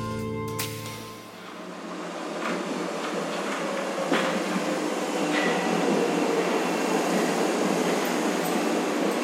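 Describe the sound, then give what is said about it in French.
A deserted metro train in Paris during the lockdown runs with a steady, loud rumbling roar, opening with a brief humming motor whine and punctuated by occasional clanks and rattles of the carriages; no one speaks. “Et on va aller cette semaine, au fil des rues et des métros déserts, à la rencontre des commerçants parisiens en mode confiné.”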